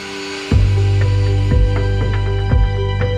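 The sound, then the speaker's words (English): A loud airplane engine starts up abruptly in Papua and settles into a steady, droning hum with strong low rumble, punctuated by regular thumping pulses about once a second, with no talking. “Death can't hold us down, and this plane brings life again, and it's going to bring help, hope, and healing for the people of Papua.”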